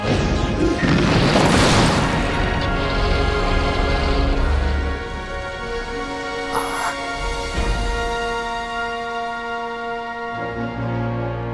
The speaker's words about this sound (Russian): Удар молнии!